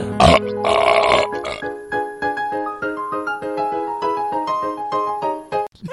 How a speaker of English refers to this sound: It wasn't even like a real burp. Are you one of those guys who... can't fake a burp?